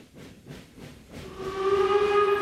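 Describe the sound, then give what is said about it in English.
Puffing chuffs of a steam locomotive give way to a loud, sustained steam whistle that swells and holds steady, with hissing steam underneath and no voices. “During those days, the team traveled by train across the Great Plains to their games”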